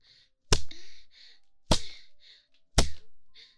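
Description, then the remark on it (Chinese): Three sharp whip lashes strike a person's body at a steady pace about a second apart, each a loud crack with a brief smacking tail, and no talking. “心里隐隐的有一些期待，期待我下一鞭子早点打在你身上啊。”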